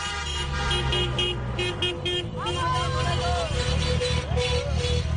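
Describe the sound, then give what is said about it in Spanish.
Car horns honk over and over on Jaime III street in Palma, long sustained blasts layered over engine rumble, with a crowd shouting and cheering throughout as people celebrate promotion to the first division on 18 May 2021. “Todo es un mar de claxon, de bocinazos, la gente celebrando este ascenso a la primera división en este 18 de mayo de 2021.”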